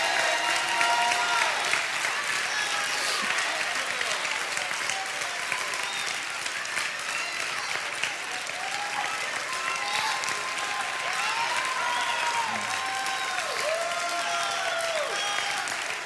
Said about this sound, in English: Take the next 30 seconds and give him a hand clap of praise.